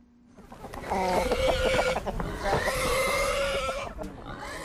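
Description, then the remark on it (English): Chickens cluck and scrabble in the dirt on a farm in the Machalies Mountains, north of Johannesburg, South Africa: a busy farmyard jumble of repeated short calls over a steady bed of scratching and rustling noise that starts after a quiet opening moment. “Chickens scrabble in the dirt and pigs feud over food on Brightside Farm in the Machalies Mountains, north of Johannesburg.”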